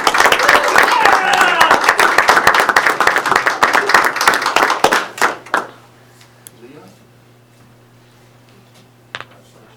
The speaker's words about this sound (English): So let's give our 7th grade girls basketball team a round of applause.